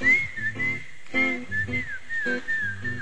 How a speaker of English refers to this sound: Come on, whistle.